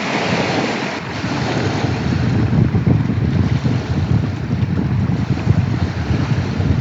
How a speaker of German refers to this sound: Dazu hat er mir auch noch eine kurze Aufnahme von der Loch Ness-Brandung direkt vor seiner Tür zugeschickt. Hört mal rein.